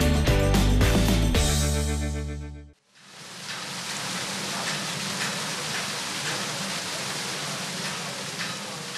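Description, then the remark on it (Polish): A short burst of music cuts off, then a steady, loud rush of water spilling over like in a mill, at a forge site on the Oliwa Stream (Potok Oliwski), a dense churning wash with a low rumble underneath and no talk. “Słyszą Państwo, woda się przelewa niczym w młynie.”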